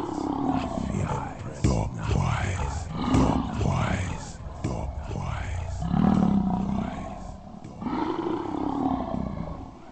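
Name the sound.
lioness roaring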